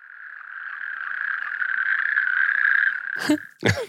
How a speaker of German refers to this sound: Es gibt aber noch was. Ja, nämlich? Ein Amphib, die Kreuzkröte. Die Wechselkröte klingt auch so ein bisschen so, aber die Kreuzkröte noch ähnlicher. Wir hören mal rein.